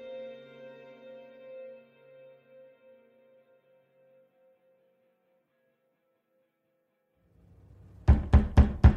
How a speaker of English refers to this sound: Next thing you know, someone's pounding on the door.